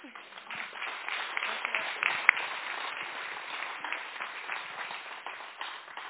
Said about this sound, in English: Yeah, let's give another hand clap for this team. It was a really awesome group.